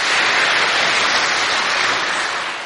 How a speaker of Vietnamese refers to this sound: Xin cho một tràng pháo tay chào đón các bạn.